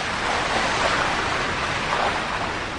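A steady, roaring wash of water, like the Aras River's waves surging without pause, full and broad with a slight swell near the middle and no voices.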